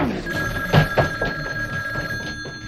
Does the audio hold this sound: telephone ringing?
yes